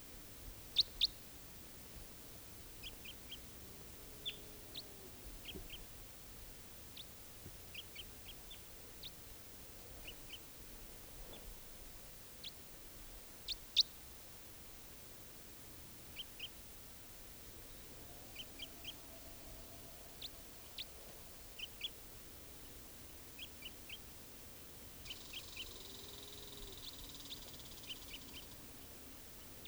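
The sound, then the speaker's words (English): Lovebird calls from a bird perched at the top of a tall Douglas fir: short, sharp, high-pitched chirps repeat at irregular intervals over a steady low hiss, sometimes in quick pairs or bursts. The calls are fairly faint, and no one speaks. “lovebird.”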